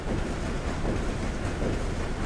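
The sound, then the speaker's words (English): A ship's engine chugs in a steady, deep rumble, with a faint repeating pulse running through the continuous low drone. No voices are heard. “For 8 days, he listened to the ship's engine chug away. It probably sounded something like this.”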